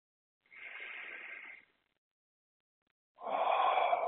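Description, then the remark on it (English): Slow, deep breaths taken during a guided relaxation: a long airy breath, a quiet pause of over a second, then another full breath begins. There is no talking. “I invite you to close your eyes and get comfortable and relax and just take a few long, slow, deep breaths.”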